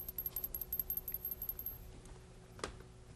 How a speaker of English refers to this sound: I have an idea here. Yeah, here it is. This is a little bell. Can you hear it?